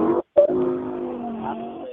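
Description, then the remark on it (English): A motorcycle engine revs loudly, cutting out for a split second before roaring back into a steady, droning whine that holds for the rest of the moment. “It sounds like you're outside riding motorcycles, so make sure you have your helmet on.”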